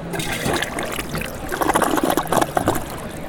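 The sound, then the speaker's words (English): A Drake 2 1G ultra high efficiency toilet flushes using only 1 gallon of water, a steady rush of gurgling water that swells and churns briefly over a few seconds, with no voices. “It's an ultra high efficiency toilet. It removes all kinds of waste using only 1 gallon of water.”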